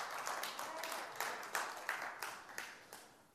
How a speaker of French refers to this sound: Oui, on applaudit le Seigneur.